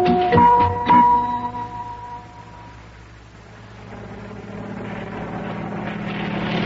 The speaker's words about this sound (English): Boy, look at that. Do you see what I see? It's a helicopter. Hey, now, what's that doing way over here over the ocean? It says U.S. Mail on the side.